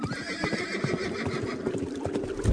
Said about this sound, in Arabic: ابويا ابويا، في عربيات بخيول عليها فرسان جايين، دول مولعين نار.